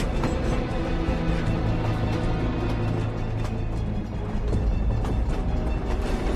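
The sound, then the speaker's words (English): Moving trains rumble and clatter past on an elevated track, a loud, steady, dense roar of wheels and cars that fills the whole stretch with no voices. “As Dalrain and his men search parked trains, Rourke walks between two moving trains a row over.”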